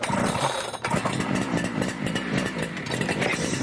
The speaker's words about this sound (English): Chunks all revved up. But because it's a two-stroke engine, it could cause them problems. Sounds very two-stroke. Mm. The high revs that this engine kicks out are perfect for delivering fast power to a light machine, such as a chainsaw.